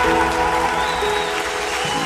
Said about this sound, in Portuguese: Aplauda!